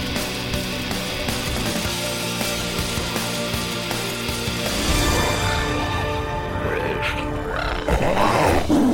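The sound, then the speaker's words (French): An escaped giant magical cat roars loudly in deep, rumbling, growling bursts that swell and grow harsher toward the end, with a busy layered backdrop underneath and no talking. “Attention tout le monde! Un chat magique géant s'est échappé!”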